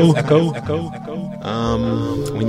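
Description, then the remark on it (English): A voice run through a heavy echo effect, its tones smearing and trailing into one another in continuous reverberant layers, loud throughout. “I need my voice to echo, but I don't think we want this kind of echo.”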